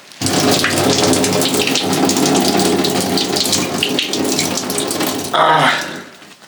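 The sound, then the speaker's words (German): A steady stream of water is poured into an overfull cheap diaper, testing whether it holds a second litre, for about five seconds: a broad, loud rushing splash, then briefly a brighter, harsher gush before stopping. “Ich kann ja mal versuchen, die Windel auszubringen. Und dann weiter zu schütten.”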